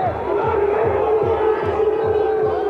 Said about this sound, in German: Gegen Ende des Spiels, der Alkoholpegel steigt und bei einigen Zuschauern fallen nun auch die allerletzten Hemmschwellen. Und auch heute sind sie wieder zu hören, die Urwaldlaute.